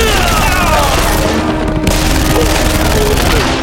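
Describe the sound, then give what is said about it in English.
An Uzi submachine gun fires in a loud, sustained burst, the rapid shots blurring into a dense, harsh roar that barely lets up across the few seconds. “Twisting, he brought the Uzi to bear.”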